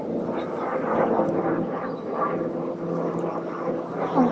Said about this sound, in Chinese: 等一下，我想等这，因为我头上有个直升机，我等这个直升机过去以后， 可以， 这个噪音有点大。